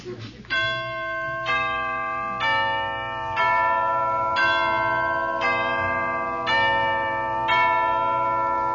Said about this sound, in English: Entrance of the Knights of the Grail from Wagner's Parsifal. You specialize in bell-like music?